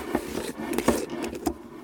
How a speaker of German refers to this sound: Jetzt mache ich die Paprika auf, also die Dose, wo die drin sind und jetzt das Nutella-Glas.